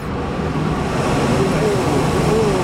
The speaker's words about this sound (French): Impressionnant le niveau de bruit à ma gauche et à ma droite, des murs entiers de ventilateurs avec des petits fils jaunes et noirs. Voilà le son que fait l'email que vous envoyez à Tati Thérèse.